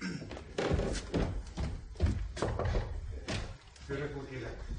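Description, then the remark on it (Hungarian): Several firm knocks on the boss's wooden office door, spaced unevenly, with low thuds under a background murmur and some voice-like sound. “a főnök ajtaján kopog.”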